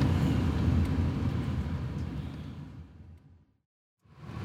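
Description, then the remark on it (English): A car drives with a steady low engine and road rumble that gradually fades, cuts to a moment of silence, then returns, as it pulls into a private parking lot. No one speaks. “We pull into a parking lot and we all get out of the car,”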